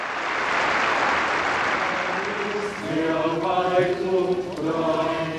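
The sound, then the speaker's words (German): A large crowd of pilgrims claps steadily while voices rise in cheers and shouts, thanking Pope Francis for his greeting at the Wednesday general audience, the applause broad and dense, with excited calls growing louder partway through. “Diese dankten's ihm mit Jubel und Applaus.”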